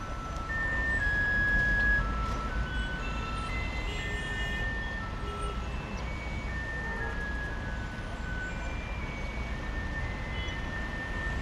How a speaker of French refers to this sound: Nous mettons un petit moment à comprendre d'où vient cette musique qui tape sur le système. En fait, elle sort des camions qui sillonnent la ville en vaporisant de l'eau. C'est pour fixer la poussière, une mesure anti-pollution.